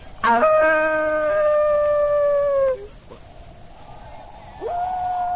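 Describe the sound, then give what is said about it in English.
A human voice imitates a wolf, giving one long, steady, mid-pitched howl that fades out, then a brief pause before a second howl rises in pitch and holds. “Why do you speak with the voice of the wolf?”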